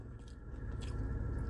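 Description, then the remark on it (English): Biting and chewing of a crunchy Naked Chicken Chalupa with avocado ranch sauce, with three or so crisp crunches spread over a steady low mouth rumble. No one speaks. “That's got a good crunch to it.”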